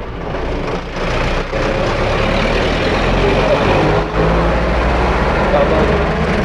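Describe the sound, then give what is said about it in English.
Loud, steady roar of road traffic, with trucks and cars rumbling past continuously and heavy low engine noise filling the whole stretch. “We go somewhere else, there's too many cars here.”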